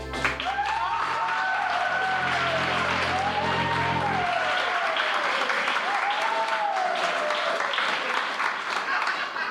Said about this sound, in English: Please, I've had my fill of the applauding. Thank you. Thank you very much.